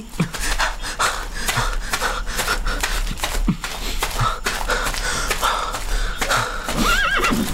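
A horse whinnies and snorts over steady, repeated hoofbeats clip-clopping at a brisk rhythm, with a high wavering neigh rising near the end. No one speaks.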